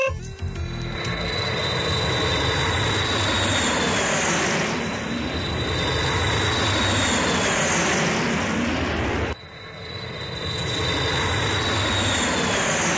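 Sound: airplane taking off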